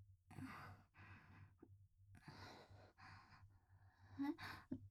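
A person yawning, a run of breathy, drawn-out exhalations and gasping inhales repeating every second or so, with no talking.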